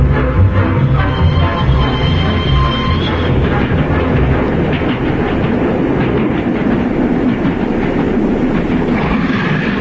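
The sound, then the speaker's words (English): A moving train rattles steadily along the rails, a loud, continuous rumble with rhythmic clattering throughout and no voices. “I didn't know you were on the train.”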